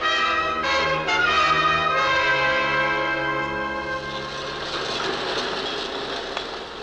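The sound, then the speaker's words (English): A subway train rumbles and rattles along the tracks, loud, with a harsh tonal screech early on that fades into a steady, noisy roar. “The next station stop, we get off.”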